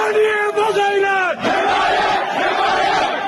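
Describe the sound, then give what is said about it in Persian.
A crowd of protesters in Mahabad shouts together for support in a loud, sustained roar, with one strong voice holding a rising, wavering call before it breaks off and the mass of voices continues. “این فریاد حمایت طلبی مردم مهاباد.”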